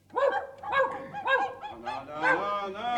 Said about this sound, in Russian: Чего стали собачьи дочки? Довезете косточек дам? Да не грызитесь вы, сыть окаянные!